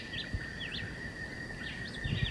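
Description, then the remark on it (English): A John Chewitt bird, about 30 meters away, sings a few short, rising-and-falling whistled phrases, moderately loud, over a steady high-pitched insect-like drone and low rumbling background, with no talking. “John Chewitt is probably 30 meters, and the woodbelly, the vireo, white vireo is back in the edge of the woods, 50 meters.”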